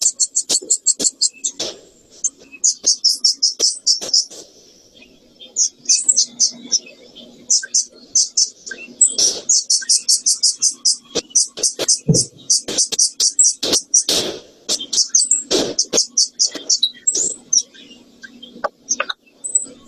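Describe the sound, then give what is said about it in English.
Nestling birds, a baby house wren and four little swallows, begging with rapid, high-pitched chirps in dense, nearly continuous bursts while being fed in an avian room, fairly loud, broken by occasional sharp clicks and rustling. “So in the first one you saw, she was feeding a little house wren and then four little swallows.”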